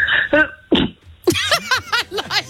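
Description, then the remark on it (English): A few short, muffled sneezes, stifled into tight bursts, followed by a run of quick breathy vocal sounds, fairly loud. “I like them sneezes because they sound like they've got a silencer on.”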